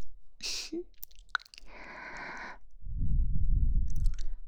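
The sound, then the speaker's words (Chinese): Wet mouth sounds with a few sharp crunches and bites on ice cubes, then a longer stretch of dense, grainy crunching and chewing that grows louder toward the end. No one speaks. “冰块好像换的差不多了。”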